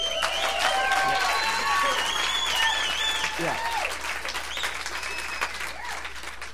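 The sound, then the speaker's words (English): An audience claps steadily during a sermon in a dense, sustained wash of applause, with scattered cheers and raised voices mixed in, slowly easing slightly toward the end. “You'd really clap if you knew I was about to finish my sermon and go on vacation.”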